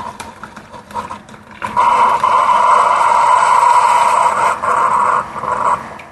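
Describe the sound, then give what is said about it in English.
A single-serve coffee maker brews coffee: a few quiet clicks and gurgles, then a loud, steady buzzing pump drone that holds for several seconds before dipping at the end. No voices. “I don't know, I think in the morning that's kind of a nice sound here, that coffee.”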